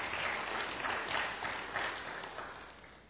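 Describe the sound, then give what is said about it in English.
Light, polite applause from a small audience, a soft golf clap with steady patter that gradually tapers off over a few seconds, with no one talking. “What's it going to take to get more than a golf clap?”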